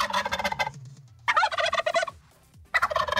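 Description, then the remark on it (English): A turkey gobbles in three loud, rapid rattling bursts separated by brief pauses, clear with no talking. “Songs that, man, you just don't like them so much, you'd almost rather be hearing a turkey gobble than even the song.”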